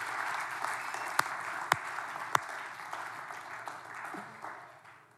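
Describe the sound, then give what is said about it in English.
Steady audience applause welcoming two pastors from Iran to the stage fills the whole stretch, a dense wash of clapping with a few sharper, louder claps standing out early on before it gradually thins a little toward the end. “So let's clap a little bit louder.”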